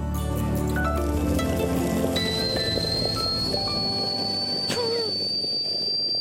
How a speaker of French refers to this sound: vous êtes à Liège, c'est la tempête qu'on entend là derrière vous? Non, c'est ma bouloire, je suis en train de me faire un café.